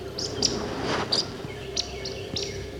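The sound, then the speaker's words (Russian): Two woodcocks in roding flight at sunset over forest clearings and glades give a series of sharp, high squeaky chirps at irregular intervals, very close, over a steady low background hum; no clear croaking stands out. “Длинноносые птицы летят с хорканьем и цыканьем.”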